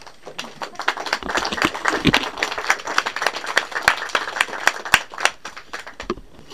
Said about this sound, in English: Clap.